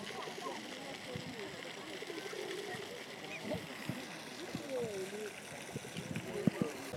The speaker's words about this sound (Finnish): Tuolla on suihkulähde.